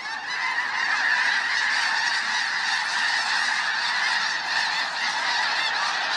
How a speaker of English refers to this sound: That big whoosh is the wings of 1,000 snow geese beating together, creating a rush of air like a passing freight train. Here it is one more time. As the tornado of geese whirls in the air, their calls build to an enormous crescendo.